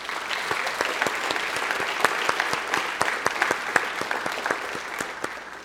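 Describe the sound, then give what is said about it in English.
An audience applauds steadily for a group of people just named, a dense patter of many hands clapping at an even level with a few sharper individual claps standing out, and no voices over it. “If you could give them a round of applause.”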